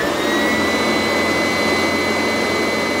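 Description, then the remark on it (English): A vacuum cleaner runs with a loud, steady roar and a high whine over it, holding constant for the full three seconds with no voices. “turned on my lie detector machine, which ran with a horrible roar. In truth, I was really running the vacuum cleaner.”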